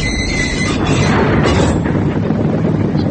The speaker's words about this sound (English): The next three shells fracture the metal formers where the rear fuselage is bolted on, effectively breaking the aircraft's back. The whole rear section buckles violently.